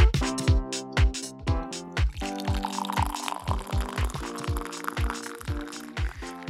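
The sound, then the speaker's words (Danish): Tea is poured steadily into a cup, a continuous splashing stream with ringing, resonant tones and soft rhythmic gurgles, with no voices. “er du ved at hælde te op? Det er lige præcis det, er.”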